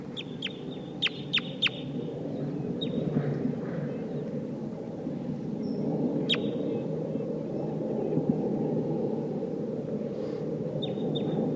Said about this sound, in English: I hear wild crossbills here. It sounds like a Sitkensis type.